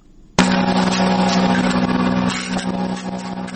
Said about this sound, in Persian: ساعت 11 شب است اما ماشین نجاری فضل احمد هنوز خاموش نشده است